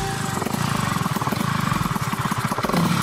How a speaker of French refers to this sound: 18h11, c'est bien un doux bruit de moto, de deux roues que vous entendez à présent.